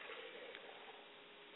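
Water being poured out as a libation to the east and to the west in a steady, continuous stream, a soft splashing hiss that holds evenly for under two seconds, fairly quiet, with no voices.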